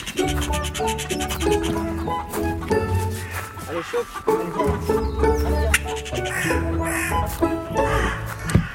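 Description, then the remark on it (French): Hens cluck and roosters crow in a busy, overlapping chorus that runs steadily throughout, with repeated harsh calls coming from several birds. “Alors comme on entend donc là plutôt des poules et des coqs,”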